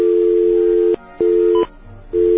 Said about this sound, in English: Now, we're going to take our little pulsating dial tone here.